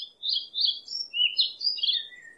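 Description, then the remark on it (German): Small birds chirp and twitter melodically in a continuous, high-pitched stream of overlapping notes, clear with no voices present. “oder wie das melodische Zwitschern von kleinen süßen Birds.”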